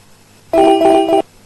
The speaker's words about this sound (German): Jetzt klingelt mein Handy in dem Moment. Es ist gerade ganz schlecht.